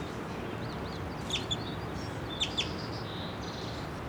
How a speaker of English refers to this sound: Two of the birds now, the female and then the brightest male. And the bell male is right here in the ground. Just a few feet away.